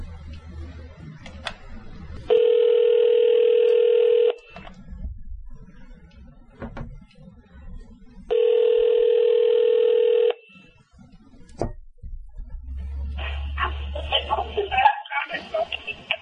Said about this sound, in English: I'm picking up the phone. and I'm dialing in to get him, and I almost don't know what to say right now at this time. I'm just so excited. Hopefully he answers the phone.